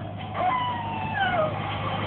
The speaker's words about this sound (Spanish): Solín tiembla al escuchar el lúgubre aullido de un lobo solitario.